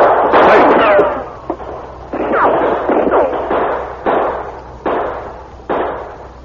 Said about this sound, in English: As the sergeant started after them, a volley of shots made him drop to the floor of the balcony.